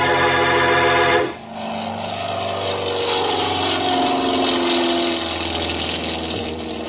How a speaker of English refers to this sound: We went out onto the field and climbed into the plane. Then Ayers gunned the motor, and we were taking off.